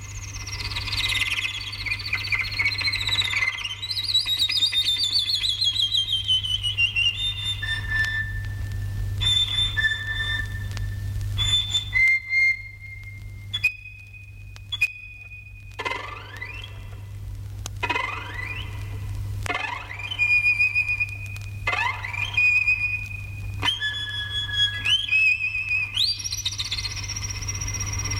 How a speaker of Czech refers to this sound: Vjerovatno najljepša ptica koja se može vidjeti na Balkanu, bar što se tiče raznovrsnosti, sklada i živosti boja, svakako je obična pčelarica ili žura, Merops apiaster.